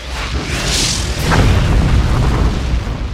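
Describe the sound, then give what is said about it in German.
A deep, rumbling explosion boom with a sustained low-frequency roar that swells and lingers for a few seconds, loud, with no speech. “es könnte auch passieren, dass wir durch ein solches Manöver, durch einen Aufprall oder eine Explosion ihn erst rechts in Richtung Erde schicken.”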